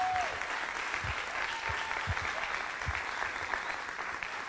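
An audience applauds steadily, a dense wash of many hands clapping at an even, sustained loudness, with a few lower thumps scattered through it and no voices standing out.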